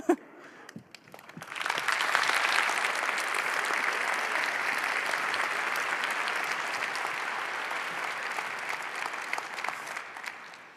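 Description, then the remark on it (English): Scattered claps start, then swell within two seconds into steady, sustained applause from a sizeable audience after a talk, holding at an even level and thinning only slightly toward the end. “I think we can actually give that thank you back with some more applause.”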